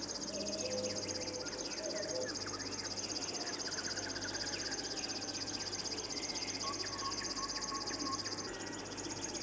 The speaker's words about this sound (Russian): Не думайте, что это стрекочет кузнечик. Это песня камышовки. Птица очень осторожна, и увидеть ее нелегко. Зовут ее речным сверчком.